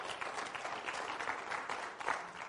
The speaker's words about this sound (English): Come on, give him a hand clap of praise.